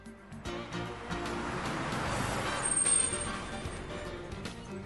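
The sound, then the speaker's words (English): A bus rumbles closer along a road, its engine noise swelling to a peak before easing slightly, with a faint hiss near the end. No one speaks. “Here comes the bus.”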